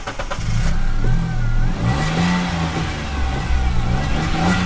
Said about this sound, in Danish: Er det en Peugeot 107? Det er en Peugeot 107, som kører på biometanol. Og den er temmelig grøn.